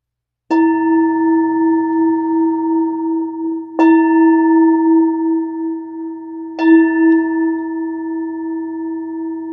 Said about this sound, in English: All right, so let's take a moment to... How about ringing us the bell